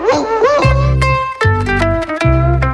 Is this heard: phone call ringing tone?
no